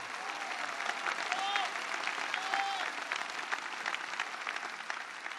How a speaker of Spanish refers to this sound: En este día en el que se celebra Nuestra Señora de Luján, celestial patrona de Argentina, un aplauso a la Virgen de Luján. Más fuerte, no siento, más fuerte.